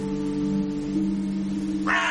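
crows cawing

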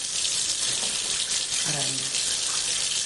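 water running

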